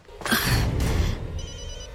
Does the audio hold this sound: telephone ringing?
yes